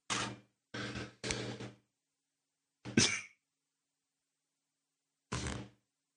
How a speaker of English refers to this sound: And for all you people out there just listening to this, just enjoy the sound, the shutter. I mean, that is crazy, isn't it?